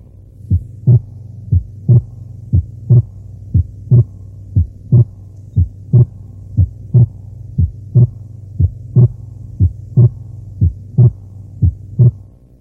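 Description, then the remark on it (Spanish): Heart sounds with a fixed split second sound that does not vary with breathing, caused by blood passing from the left atrium to the right atrium, delaying right ventricular systole: steady lub-dub pairs at about one beat per second, low and thumping over a constant low hum, with no voices. “En este caso, el desdoblamiento no varía con la respiración y se produce el llamado desdoblamiento fijo.”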